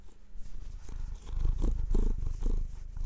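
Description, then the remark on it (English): A male cat purrs steadily, a low rumbling drone with a rhythmic pulse of inhale and exhale, soft and continuous with no voices. “Let me get him to purr.”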